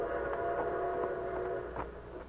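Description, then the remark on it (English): A steady, sustained whistle of an approaching train sounds from far off, heard from a wooded grove near the railroad tracks, a continuous harmonic tone holding for a couple of seconds over a low rumble, no voices present. “In a wooded grove near the railroad tracks, 4 men with their faces masked by bandanas waited tensely as they heard the distant whistle of an approaching train.”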